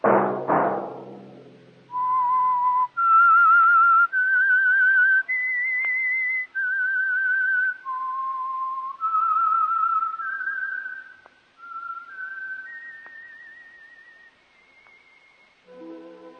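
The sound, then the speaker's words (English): A lone, clear whistled melody of sustained pitched notes rising and falling in a slow, eerie tune, fairly loud, following a brief low thud at the start; the theme signal of the Signal Oil radio program The Whistler. “That whistle be your signal for the Signal Oil program, The Whistler, each Monday at 8.”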